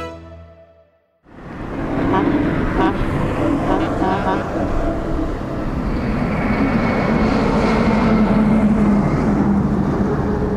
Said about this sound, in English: In the rocky desert outside Cairo, large trucks come and go every minute. They're delivering building materials and carrying waste soil on their way out. This is the site of a new megacity.